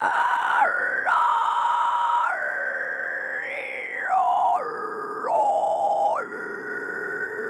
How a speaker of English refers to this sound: It's almost as if the powers that be, whoever, whatever created us, started an operation for vocal cords a little higher up and didn't finish them. So it's actually like higher up, it sounds like shrieking. Sounds like an animal.